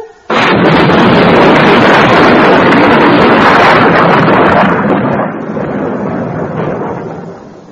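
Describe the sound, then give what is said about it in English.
A sudden, massive thunderclap during an electric storm with lightning bursts in after a brief silence, then a heavy rolling rumble sustains loudly for several seconds before slowly easing off. No voices are heard. “The thunder's coming. The loudest of all.”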